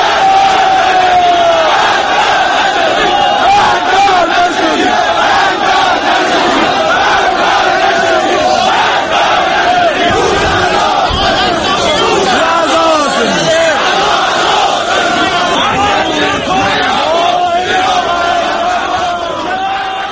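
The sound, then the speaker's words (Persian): A large crowd of Iran Khodro car factory workers in Iran shouts and chants together in protest against the factory's management during a memorial ceremony on the factory grounds, a loud, continuous mass of voices with rising yells and overlapping calls that never lets up. “در همین ارتباط نیز فیلمی در یوتیوب قرار گرفته است که گویای ابراز نارضایتی کارگران ایران خودرو از مدیریت این کارخانه است.”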